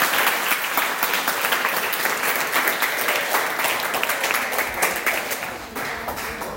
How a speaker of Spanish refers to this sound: ¡Ey, un aplauso, madre mía, qué bonito!